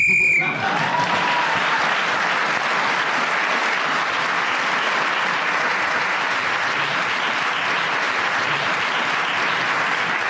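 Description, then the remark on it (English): A short, shrill whistle blast sounds at the very start, ending a round of a panel game, quickly swallowed by loud, steady audience applause that continues to the end. “End of that round, Clement Freud was speaking as a whistle went, gained that extra point.”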